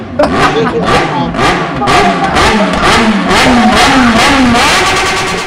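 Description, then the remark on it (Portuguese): A voice imitates a motorcycle engine revving, with repeated rising, sputtering pulses like a bike hitting the rev limiter, loud, filling about five seconds without any spoken words. “Ele tinha ligado uma moto, assim, ó, tava cortando de giro.”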